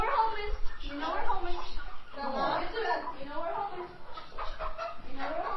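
Several chickens cluck and squawk in a busy, overlapping chorus that carries on steadily, with bursts of louder, agitated calls throughout, as a father and his 11-year-old daughter herd them into a pen in their newly repaired barn on a 9-acre property in David City, Nebraska.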